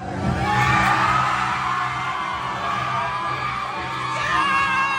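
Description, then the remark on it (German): A packed crowd in a bar in California, watching a TV series together, screams and whoops in sustained, excited unison, a loud wall of high-pitched shrieks and cheers with overlapping voices swelling and dipping throughout. “Die Aufnahme stammt aus einer kalifornischen Bar, in der gemeinsam Heated Rivalry geschaut wurde.”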